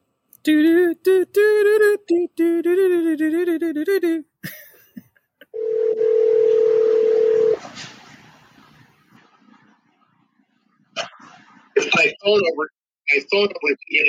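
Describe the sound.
A steady telephone dial tone hums for about two seconds after a voice, after a call has disconnected and is being dialled back, followed by faint background hiss, then people talking again. The tone is clear and fairly loud.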